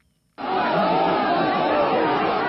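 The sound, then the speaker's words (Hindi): After a brief silence, thousands of students protesting against railway privatisation at Sasaram railway station erupt into loud, continuous shouting and slogan chanting, a dense roar of many voices that holds steady to the end. “यह शोर और नारे लगाने की आवाजें उन छात्रों की है जो रेलवे के निजीकरण के विरोध में सासाराम रेलवे स्टेशन पर प्रदर्शन कर रहे थे।”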